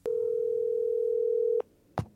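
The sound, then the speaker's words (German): After a phone number is dialed, a single steady telephone ringing tone, one unbroken hum of about a second and a half, ends abruptly, then a brief click like the receiver being picked up. “Ah, da ist die Nummer schon. Ha, das ging ja fix. Ich wähle mal.”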